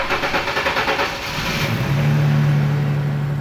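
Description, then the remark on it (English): A car engine revs up with a pulsing, rumbling rhythm, then settles into a steady rising drone as a man who has jumped into his car drives away down a street, fairly loud with no talking. “Winston ran off, jumped into his car, and drove away.”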